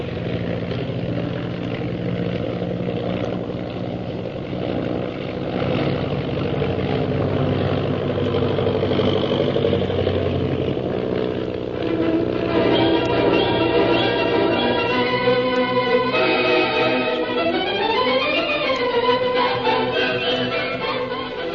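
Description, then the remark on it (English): A loud, steady propeller-plane engine roars continuously, its drone shifting and swooping up and down in pitch toward the end as if the aircraft is climbing and diving. “I'm going to try to sound our plane out of the reach of those purple triangle men.”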